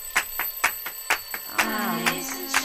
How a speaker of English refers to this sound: Don't hit the snooze on your alarm clock.